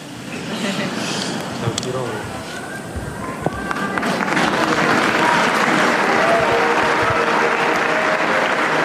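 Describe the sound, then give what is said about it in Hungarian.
A large crowd breaks into sustained applause, a dense, steady clatter of clapping that swells and holds loud throughout, with a few voices and cheers mixed in, thanking Pope Francis for his blessing and teaching. “És tapsal köszönik meg Ferenc pápa áldását és tanítását.”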